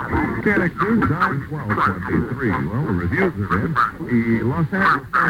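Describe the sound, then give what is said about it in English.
A faraway AM radio broadcast comes through with muffled, band-limited speech, steady hiss and slight warbling distortion, the voice audible but indistinct throughout. “So this is 1070, avoiding interference from a local station on 1071.”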